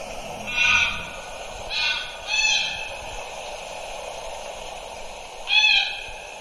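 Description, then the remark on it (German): A played recording of a single greylag goose calling four times in short, bright bursts, three close together near the start and one more after a long pause, over a steady background hiss with no talking. “Ja, und das ist jetzt eine einzelne. Eine sehr minimalistische Aufnahme, aber gut, man hat es gehört.”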